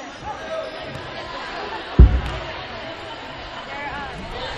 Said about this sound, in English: And you should be able to hear the crowd noise.